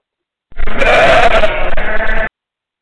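A single loud sheep bleat, a wavering nasal cry lasting nearly two seconds before stopping abruptly, with silence around it.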